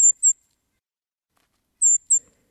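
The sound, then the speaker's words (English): Brown creeper song: very high, thin, sibilant notes in two brief pairs separated by a pause, clear against an otherwise silent background. “I associate creeper song with strong sunlight streaming through snowy woods on a frosty morning which promises to warm above freezing.”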